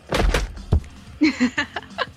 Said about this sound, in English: Okay, that was me fainting.